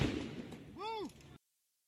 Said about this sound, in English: All right, a little use of fireworks here.